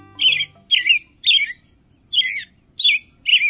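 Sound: american robin song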